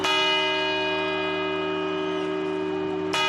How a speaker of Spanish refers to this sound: El reloj de la Puerta del Sol se va a desmontar por primera vez en 30 años. Será en marzo y estas campanadas, las que escuchamos para dar la bienvenida a este 2025, serán las últimas que dará tal y como lo conocemos.